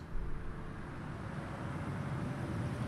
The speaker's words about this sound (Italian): Chiasso, rotonda tra via dei Pedroni e via Alessandro Volta. Traffico, motori, nausea. Costante, continuo, perenne, incessante, interminabile, frastuono.